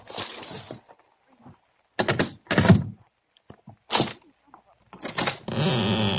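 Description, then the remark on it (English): A letter is pushed under the door of a flat: dull thumps and rustling bursts, then a steady papery scrape as it slides through at the end. No one speaks. “Oh, you got the letter with you? Yes, I've got it. Hey, put it under the door.”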